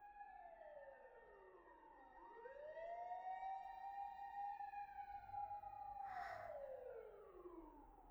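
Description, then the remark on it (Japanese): Fire engine sirens wail outside as the engines head up a mountain to a fire, their rising and falling tones overlapping and sweeping steadily, fairly loud, with faint road rumble beneath and no one speaking. “外、うるさいね。さっきからずっとサイレンが鳴りっぱなしだ。あの消防車たちはね、山の上に向かってるんだよ。”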